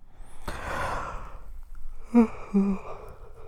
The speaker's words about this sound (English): No yawning. You know what makes me yawn?